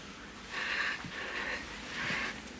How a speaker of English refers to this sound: So you kind of let the panting play out.